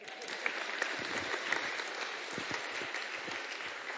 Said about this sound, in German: Großen Applaus für dich.